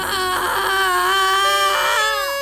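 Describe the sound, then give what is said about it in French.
A baby screams and wails loudly and continuously from the back seat of a 4L car. Its high, strained cry wavers in pitch, with brief catches between sobbing bursts, and no talking over it. “Soudain de la banquette arrière jaillit un hurlement d'enfer.”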